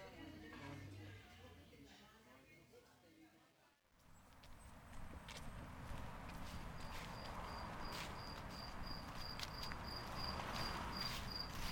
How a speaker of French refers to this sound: Sur le chemin du retour, les lumières des maisons commencent à s'allumer dans le crépuscule. Les grillons ont remplacé les cigales. Le son des grillons. Celui qu'on fait jouer pour indiquer un malaise, un silence, un moment où il se passe rien.